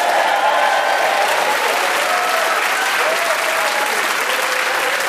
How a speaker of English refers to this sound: Applaud the audience. Applaud themselves. Applaud the teams. Welcome back. It's the Wittertainment Christmas Eve quiz.